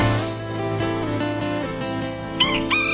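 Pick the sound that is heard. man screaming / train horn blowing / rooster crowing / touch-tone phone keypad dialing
rooster crowing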